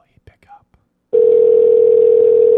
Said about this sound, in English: The phone is ringing.